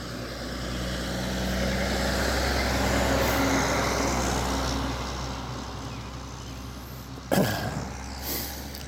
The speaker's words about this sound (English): Uh-oh, big truck coming by. It'll take away from some of the bird songs this morning as you hear the truck.